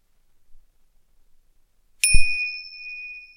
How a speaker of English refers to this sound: Where was your mind when I rang the bell then?